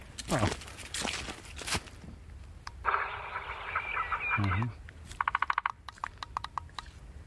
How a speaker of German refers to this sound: Ich kann denen auch Vogelgesang aus der Konserve bieten. Ich kann jetzt nicht sehen, was sie da in der Hand haben. Was ist denn das? Das ist so dunkel. Kleiner Lautsprecher. Guck mal, das passt jetzt überhaupt nicht. Das war der Specht.